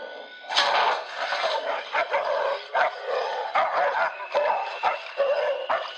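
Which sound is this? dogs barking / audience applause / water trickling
dogs barking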